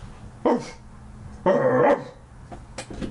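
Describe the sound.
A person imitates a dog barking to try to get cats to move, with two loud, harmonic bark-like yelps about a second apart, the second one longer, followed by softer, shorter yips near the end.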